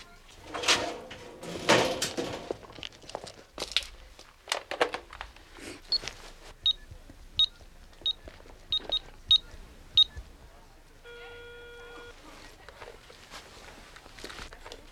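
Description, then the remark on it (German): A door clatters open and shuffling steps enter a phone booth near a hair salon to make a call, then seven or eight crisp push-button beeps dial a number, followed by a steady electronic ringing tone. “da gleich in der Nähe eine Telefonzelle stand, ging George dort hinein”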